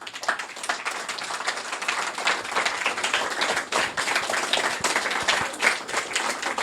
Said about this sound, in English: Big round of applause.